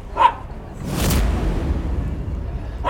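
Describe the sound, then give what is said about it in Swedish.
A dog gives one short, sharp bark, followed by a stretch of low, broad rumbling noise with no talking, and a hint of another bark right at the end. “Hunden håller inte med. Eller så har han eller hon ett inlägg i den här debatten.”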